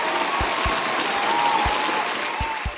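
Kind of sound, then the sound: crowd, applause sound effect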